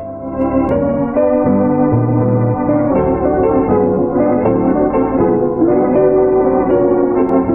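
An instrumental version of an old pop song plays steadily and fairly loud, with smooth sustained melodic lines and rich harmonies bathed in reverb. No voices.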